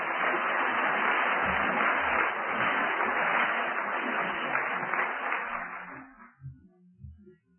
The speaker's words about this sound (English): Have them clap first, then you don't have to worry about whether they want to clap at the end, huh?